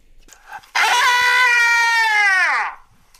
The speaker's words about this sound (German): Ich glaube, das hat man jetzt gehört. Ich glaube auch. Also eben, jemand schreit.